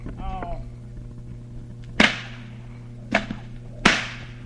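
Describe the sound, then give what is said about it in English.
Three loud, sharp whip cracks snap out at uneven intervals, each ringing off briefly, after a short vocal sound at the start, over a steady low hum, as whips are used to cut straws from the top of a person's head. “cut our own hair with our whips”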